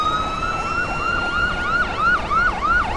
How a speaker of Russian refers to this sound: Смотрите, нас пожарные обогнали! Да, сразу три машины, куда-то спешат!